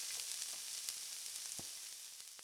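Steady, hissing sizzle of cutlets frying in hot frying oil, with scattered crackles and pops throughout, continuous with no talking.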